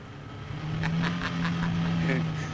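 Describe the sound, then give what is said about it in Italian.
A car speeds off, its engine holding a fairly loud, steady drone, with a few short raspy bursts riding over the hum. “Ma come, sta macchina non cure? Ah, vuoi cure? E come no?”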